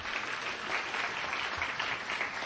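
An audience claps steadily at the closing ceremonies of the One Book, One Philadelphia program, a dense, even wash of many hands with no voices, holding at a moderate level throughout without building or fading.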